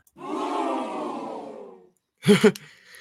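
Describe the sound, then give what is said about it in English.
A loud, drawn-out gasp from a group of voices, a shocked-crowd sound effect played from a soundboard, swells and fades over nearly two seconds, then two short sharp vocal bursts follow after a brief pause. “Now I'm just going to give you a moment to gasp.”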